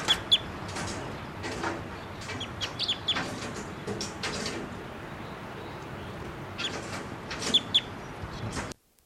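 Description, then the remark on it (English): A male bird gives a series of sharp, high-pitched calls in irregular bursts, some clucking and chirping, over a steady rustling background noise with no talking; the bird was photographed with a 500 millimeter lens and then collected. “Okay, the first two birds that were captured will be 687 female, 688 the male, and the last bird that was just calling there was collected, and he'll be 689 JGG 612, and he was also photographed with a 500 millimeter lens just prior to collection.”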